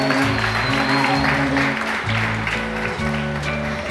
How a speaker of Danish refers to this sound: Kan vi få en klapsalve?